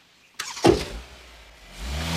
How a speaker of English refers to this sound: Harris watches, mouth agape, as Sarah roars off, driving on the wrong side of the road.